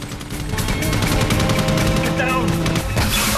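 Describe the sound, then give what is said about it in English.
Loud, rapid machine gun fire rattles in a continuous stream of sharp bursts over a steady low droning hum. In a Terminator film scene, John fires a machine gun from a casket in the back of a speeding hearse at the T-X as she prises open the roof. “In the back, John is reaching for a machine gun in the casket when the TX manages to prise open a section of the roof.”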